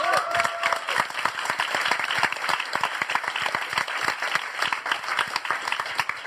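A crowd applauds steadily, dense overlapping claps filling the whole stretch at an even, fairly loud level, with a brief faint tone or cheer at the very start.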